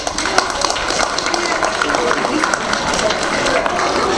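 A school audience in Dimitrovgrad applauds a new English teaching assistant from Ohio, who came through the Fulbright foundation, steadily for about four seconds, a dense, even patter of many hands clapping at once with no pauses and no clear voices on top.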